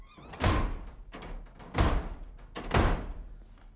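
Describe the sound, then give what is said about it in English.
A door slams shut three times in quick succession, each a heavy, booming bang about a second apart, with faint rattles and knocks between the slams, after someone storms upstairs in a house. “And don't you dare! She closes her eyes. Slam the door.”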